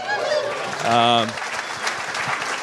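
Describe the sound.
An audience claps steadily for a few seconds, a dense patter of many hands, with a brief sustained voiced cheer rising above it partway through.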